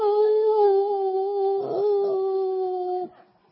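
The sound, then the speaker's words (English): A person imitates a hunting dog's howl as the dog comes up through a cornfield and runs past where a rabbit was shot: one long, steady, mournful note held loudly for about three seconds before it cuts off, with no talking. “Runs past where I shot the rabbit and goes.”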